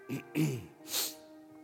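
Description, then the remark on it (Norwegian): A person clears their throat because of a tickle in the throat, with two short, gravelly rasps, then gives a breathy, hissing exhale, over a faint, steady background drone. “Det kiler litt i halsen her nå.”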